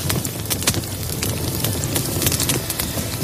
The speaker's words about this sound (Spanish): Hablamos de ello en su momento y queremos insistir porque ahora ya cada vez hay más gente que se suma a esta historia, a la de relajarte observando el crepitar de un fuego, cómo refulgen las brasas y va cambiando de color.